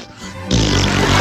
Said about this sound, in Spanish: Y es porque el auto se está tirando pedito.